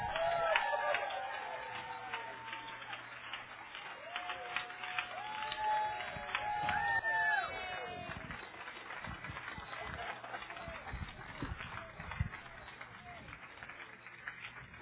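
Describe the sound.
A crowd applauds steadily with dense, continuous clapping, mixed with cheering and whoops, the sound staying loud throughout with voices rising above it.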